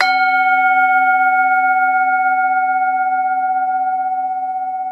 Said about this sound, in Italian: Giusto, il gong degli spoiler e via!